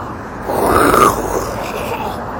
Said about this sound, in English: Yay, loud car, swoop-de-doo!